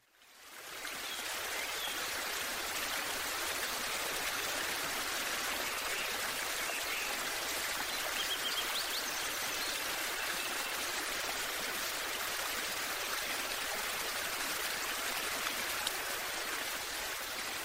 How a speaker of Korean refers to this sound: 그래서 한적한 산속 계곡 소리를 한번 준비해봤는데요. 귀라도 잠시 휴가 보내시고요.